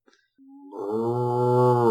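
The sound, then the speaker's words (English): A single cow moo that starts thin, then swells into a loud, drawn-out low bellow lasting over a second, clear, preceded by a few faint clicks. “Is that a flaming cow I see?”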